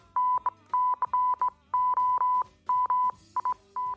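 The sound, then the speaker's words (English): Morse code beeps: a single steady mid-pitched tone keyed on and off in a quick pattern of short dots and longer dashes, loud and clear with no talking. “For 120 years, Morse was how we sent long-distance messages, by telegraph wire and then radio.”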